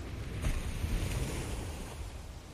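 A sharp splash of water as a whale lifts its flipper and slaps the surface close beside a boat, breaking through steady wind and lapping waves, followed by a softer churn of water.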